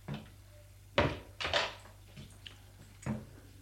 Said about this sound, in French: Après, au bout d'un moment, la porte s'ouvre.